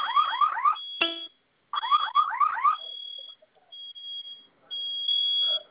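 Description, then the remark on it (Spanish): A home security alarm sounds loudly, its keypad screen showing "system in alarm", with rapid rising electronic whoops in two bursts separated by a short gap, then settling into a steady, piercing high tone. “¿Qué le aparece en la pantalla? Sistema en alarma.”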